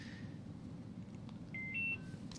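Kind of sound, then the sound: household object, phone beeping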